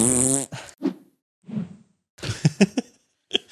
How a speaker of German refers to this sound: Einen guten Schlusssatz haben wir uns nicht ausgedacht, deswegen machen wir einfach den Daumen in die Kamera und fügen ein Pupsgeräusch ein.